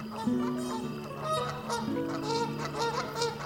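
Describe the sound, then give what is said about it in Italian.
A flock of migrating geese honks repeatedly, overlapping nasal calls rising and falling in a steady, busy chorus, with no one speaking. “Vedi? Anche gli uccelli se ne vanno.”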